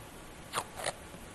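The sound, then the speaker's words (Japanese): Two quick, raspy ripping bursts of surgical tape being torn and applied to hold a plastic wrap in place over a charcoal poultice, separated by a brief pause. “だいたいプラスチックで止まるのでまずそこで手離してもいいけどそのうち外れるのでこういうサージカルテープでこの辺止めるといいですね。”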